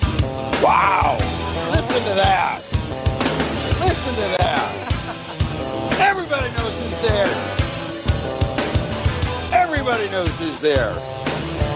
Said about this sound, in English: That scream, that yell, everybody knows who's there.